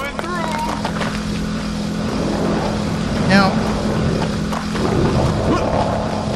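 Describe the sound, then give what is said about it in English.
A moped's small engine drones steadily on a street, its buzzy hum holding throughout with a slight swell midway, while a man speaks briefly over the noise. “Now, there's the moped.”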